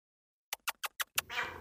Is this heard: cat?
yes